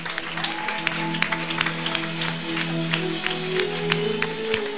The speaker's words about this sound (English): I want you to clap for Jesus, everybody. Clap for Jesus. This guy is not clapping.